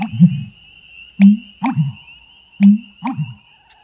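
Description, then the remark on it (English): An American bittern's deep, gulping pump-er-lunk calls repeat in three hollow, booming phrases, with a steady thin insect-like whine behind them in a quiet freshwater marsh. “The American bittern, hard to spot but easy to hear, calling from a freshwater marsh.”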